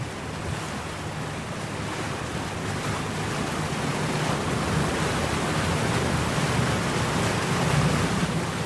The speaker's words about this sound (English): The boat pulls out onto the river and then out onto the open lake.